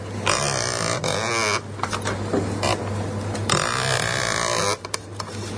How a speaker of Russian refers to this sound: Вот такой, например, скрип, если положить его вот так вот.